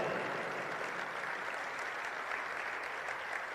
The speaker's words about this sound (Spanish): Un aplauso a Él.